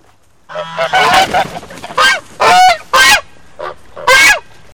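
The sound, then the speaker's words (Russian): Several white geese on a meadow honk loudly in a quick, irregular series of harsh, nasal calls, some overlapping, with short pauses between bursts and no talking. “Просили они, просили, не понимает Ванюшка по-гусиному.”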